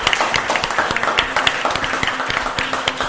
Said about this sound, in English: And a big thanks to our audience here at the Neighbor Hub at Columbia Bank in Seattle's Ballard neighborhood. Give yourselves a big round of applause for being here.